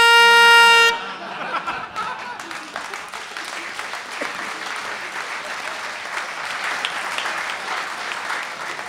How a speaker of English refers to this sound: And you can stick that car horn up your...